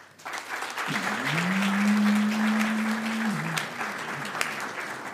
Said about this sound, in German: Höflich, das ist ungefähr den Applaus, den ich erwartet hätte. Nee, ihr wisst ja gar nicht, wo es war. So ein Wachtelapplaus.